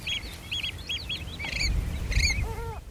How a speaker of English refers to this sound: we get over a quarter of a million birds that spend the winter here. Yeah, just in that mud, in that water, sifting and digging. So waders, wildfowl as well, curlew, oyster catchers in the hundreds, thousands, probing in that mud, loving it.